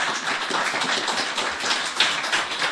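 A crowd applauding: dense, steady clapping from many hands, a continuous crackling patter at an even loudness throughout, with no voices heard.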